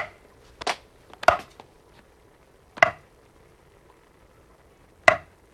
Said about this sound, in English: Can you just chop something, please? Chopping.